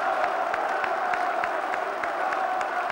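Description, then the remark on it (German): A crowd of about 100,000 people gathered on the square before the Central Committee building in Bucharest, Romania, roars and shouts in a continuous, loud wall of noise, refusing to listen to Nicolae Ceaușescu's balcony speech, with steady rhythmic pulses running through it like chanting or stamping. “Denn die rund 100.000 Menschen, die sich auf dem Vorplatz versammelt haben, wollen ihm nicht zuhören.”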